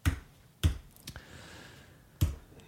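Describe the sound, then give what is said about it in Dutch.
A handful of sharp clicks spaced unevenly apart as a card number is typed on a keyboard, individual keys pressed one at a time, with quiet in between and no talking. “Kan ook typen, dat mag van mij ook.”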